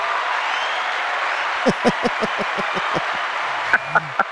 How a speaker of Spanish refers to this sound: Gracias. Aplausos, ahí está.